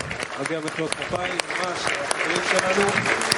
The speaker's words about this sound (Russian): Заслужили аплодисменты.